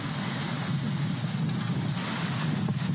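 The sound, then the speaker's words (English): A loud, unbroken roar of a rising river rushing outside a home in the village of Corozal, Puerto Rico, during Hurricane Maria, dense and rumbling, with wind buffeting the microphone throughout and no voices. “She recorded the frightening rise of the river outside her doorstep during Hurricane Maria.”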